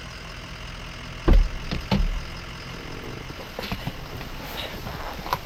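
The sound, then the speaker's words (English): A truck engine runs steadily throughout during a ride, a low continuous rumble, with two brief heavy thumps near the start like a door or cab jolt. “Before he dropped me off, the man in the truck warned me not to talk to strangers.”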